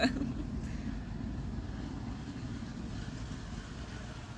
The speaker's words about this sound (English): That was not a good sounding car.